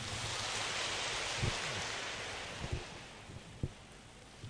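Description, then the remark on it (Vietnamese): An audience at a Buddhist retreat applauds to welcome a monk's talk, a dense, steady wash of clapping that gradually thins and fades, ending with a few scattered, isolated claps. “Bây giờ xin vị lắng nghe sự chia sẻ của Đại Đức Thiện Trí với một tràng pháo tay.”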